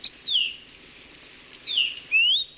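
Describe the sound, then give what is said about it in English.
A Kiwikiu (Maui parrotbill), a bird native to Maui, calls: a few clear, high whistled notes that slur downward, given in two short bursts with a brief pause between, alone against quiet background. “Like many of Maui's native birds, kiwiquiu have been devastated by avian malaria and other fatal diseases spread by invasive mosquitoes.”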